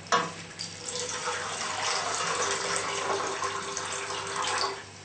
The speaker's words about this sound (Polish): W garnuszku możemy ugotować najpierw ryż. Dolewamy wody.